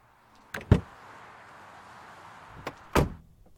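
Someone gets into another person's car: a couple of sharp latch clunks as the door opens, a brief quiet shuffle, then the door shuts with a solid thump.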